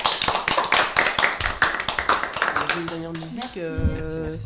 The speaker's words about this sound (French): On peut vous applaudir, je pense.